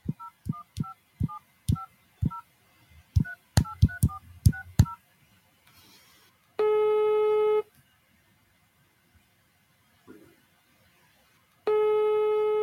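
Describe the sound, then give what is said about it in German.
A quick run of about a dozen touch-tone beeps as a phone call to Hand on Demand is dialed, followed by two long, steady ringing tones separated by a silent pause. No one speaks. “Ich rufe die einfach mal an, oder?”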